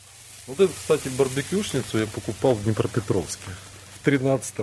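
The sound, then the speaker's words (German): Fat drips into the embers of a grill at a dacha and sizzles steadily, a soft crackling hiss, as smoke drifts into the fruit trees; the grill was bought in Dnipropetrovsk, Ukraine, in 2013. A person talks throughout. “Die Rauchschwaden verfangen sich in den Obstbäumen. Fett tropft in die Glut.”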